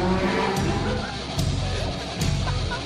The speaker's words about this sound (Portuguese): Acabou de passar um foguete. Um avião. Acabou de passar uma moto. Acabou de passar um rachador.